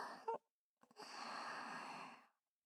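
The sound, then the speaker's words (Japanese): Heavy, deep breathing through the nose while sniffing with the nose pushed into cleavage: a short huff, a brief pause, then one long, loud, airy breath that holds steady for over a second before cutting off. “デカ乳の重さを感じながら、谷間に鼻先を突っ込んで、鼻息荒く深呼吸。”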